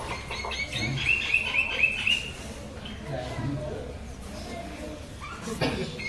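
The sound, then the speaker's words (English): An Indian myna bird, which mimics other birds' songs, sings a quick run of bright, repeated whistling chirps for a couple of seconds over a steady outdoor background hum with a few softer calls later. “Well, this is the Indian minor bird singing his, he sings all everybody's song.”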